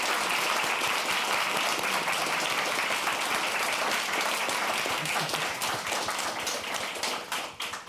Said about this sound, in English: But before that, please, just another round of applause for our panelists here today. Thank you.